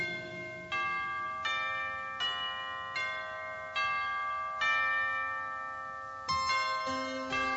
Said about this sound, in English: I love those bells, especially this time of the year.